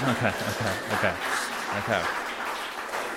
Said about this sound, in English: But I'm happy to report that between the donations and the garage sale, we have raised a little over $9,000 toward our goal of $11,000. Golf clap? Golf clap?